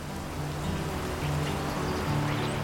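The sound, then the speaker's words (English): The River Dart flowing through ancient woodland, heard as a steady, continuous rushing wash of water with a faint low hum beneath it. The level stays even throughout and no one speaks. “The River Dart there flowing through this ancient woodland.”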